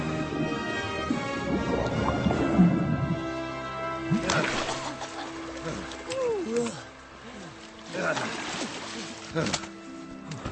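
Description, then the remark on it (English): Water splashes in a few rough, uneven bursts as someone claws and kicks at the surface, with voices talking over much of it. “Attack the water. Stalking the prey. Claw. Kick.”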